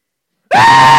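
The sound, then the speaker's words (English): A voice imitates a frightened scream: silence, then a sudden loud, high, sustained shriek that holds steady with a slight upward bend for about half a second. “They screamed. I kid you not. Right out of there, they screamed like little girls.”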